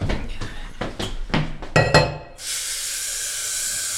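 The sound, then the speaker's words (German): Several sharp clinks of dishes and mugs knocking together during washing up, a quick irregular clatter over about two seconds, then a steady hiss of running water takes over. “Ich kümmere mich um den Abwasch.”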